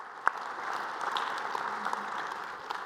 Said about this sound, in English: Can we give another round of applause for our worship team and our tech team? They do a great job here.